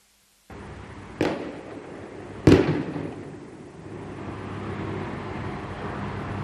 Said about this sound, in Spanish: El sonido del lanzamiento de petardos, han iniciado un paro indefinido en demanda de mejoras de seguridad que eviten nuevos accidentes como el del fin de semana.